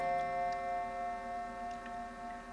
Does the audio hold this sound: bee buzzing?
no